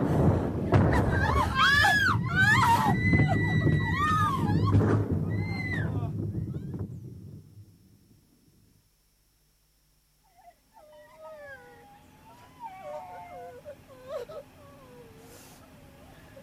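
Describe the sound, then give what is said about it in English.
Children who have had no water for a day cry loudly in wavering, high-pitched wails over a rough background for several seconds, then fall silent before softer, broken whimpering and sobbing resumes. “listen to the children.”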